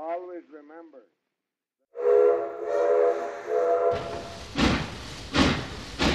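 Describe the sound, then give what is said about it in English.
A brief voice, a pause, then a steam train whistle sounds a long, steady multi-tone blast. Loud, forceful rhythmic chuffing follows from the locomotive. The train is steaming south at night through western Washington, from Seattle's King Street Station toward Portland, carrying President Harding. “But as the train steamed through the darkness of western Washington”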